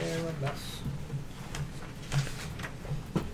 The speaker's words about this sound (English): Move that chair.